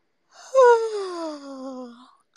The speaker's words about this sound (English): Yawns are contagious, right? Everybody yawn with me.